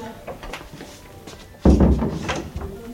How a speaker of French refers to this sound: tiens, tu fermes la porte, s'il te plaît.